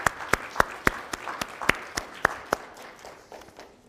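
A short burst of audience applause for people just presented with certificates: about ten crisp, evenly spaced claps in a steady rhythm, then trailing off into quiet ambience with no talking.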